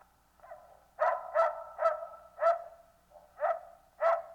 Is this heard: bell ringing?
no